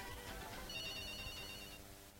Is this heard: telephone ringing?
yes